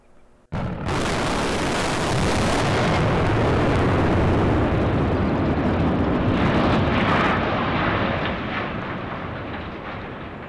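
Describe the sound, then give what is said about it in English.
After a brief hush, a dynamite blast brings down a concrete coal silo outside the Elk Creek Mine in a valley: one sudden heavy boom swells into a long, roaring rumble of collapsing debris that slowly fades over several seconds. “The silence ended when dynamite ripped through the concrete tower, sending shockwaves up and down the valley.”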